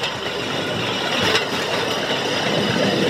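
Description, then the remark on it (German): A small rail draisine rolls steadily along the track at full speed with a continuous rumbling hiss and one faint knock from a rail joint partway through. No one speaks. “Zeit für ein Foto in voller Fahrt, das geht freihändig. Der Lenker ist ja fixiert. Die Richtung gibt das Gleis vor.”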